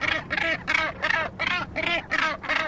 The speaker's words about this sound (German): Den hier, den hört man regelmäßig auf Helgoland. Das ist ein Bastölpel, lebt eigentlich am Meer und ist jetzt aber plötzlich in der Oberpfalz in Bayern aufgetaucht. Auf einem Stoppelfeld.